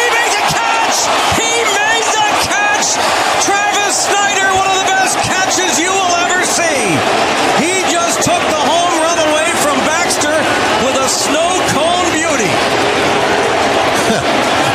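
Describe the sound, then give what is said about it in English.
A large baseball stadium crowd, watching the replay of an outfielder's catch, buzzes with dense, constant chatter, swelling with cheers and shouts throughout, loud and sustained with no pauses, scattered whistles and voices rising above the roar. “Listen to the buzz in this crowd right now.”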